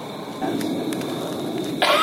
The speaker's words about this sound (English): I totally heard a cough right then. Did you hear that?